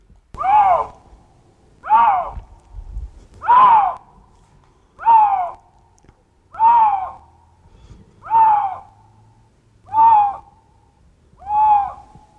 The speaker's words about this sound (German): Und wenn ich euch jetzt hier den Luchs abspiele, dann merkt ihr das vielleicht. Wie gesagt, hier, das sind klassische Brunst- oder Paarungsgeräusche vom Luchs.